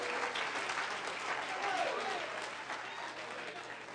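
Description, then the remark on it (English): A crowd at a worship service claps steadily, answering a call to clap their hands for the name of Jesus, a dense wash of many hands applauding at an even level throughout, with faint voices mixed into the noise. “Somebody that's glad you've been down in the water in Jesus' name, clap your hands.”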